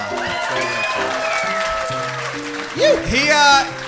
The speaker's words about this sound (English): Give a huge round of applause